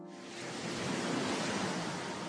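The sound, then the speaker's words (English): A steady, hollow rushing like surf, heard through a seashell held to the ear: standing waves set up by the shell's interior dimensions, swelling slightly and then holding level with no voices. “You can get different standing waves depending on the length of the tube or, as you can hear, from the interior dimensions of a seashell. So I am hearing waves. Standing waves.”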